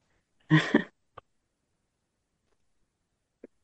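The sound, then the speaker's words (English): A single sharp sneeze bursts out, loud and brief with a voiced start and a noisy rush, followed by two faint little clicks in otherwise near silence. “So I'm going to sneeze.”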